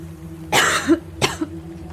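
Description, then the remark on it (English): Two coughs from a woman, a strong raspy one followed by a shorter, lighter one about half a second later, over a faint steady background hum. “She coughed.”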